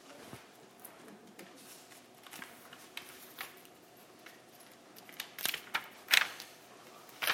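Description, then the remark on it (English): Soft papery rustles and brisk flicks, like book pages being turned, quiet at first and then a few sharper, louder turns near the end, with no talking. “This is awkward turning pages.”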